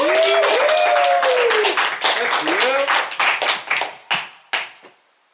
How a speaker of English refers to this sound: So without further ado, if I may, please, everybody give a good round of applause for your level one Cicerone coming to the stage